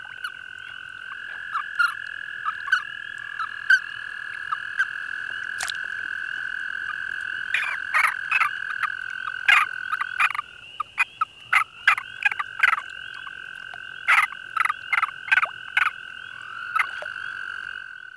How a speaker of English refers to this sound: The mounted male signals his displeasure by making squeaky chirps known as release calls. Listen for the squeaky release calls given by a mounted male in this breeding chorus of American toads.